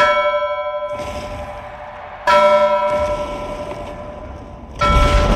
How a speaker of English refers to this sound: And he rang in the new era by banging a miniature Liberty Bell.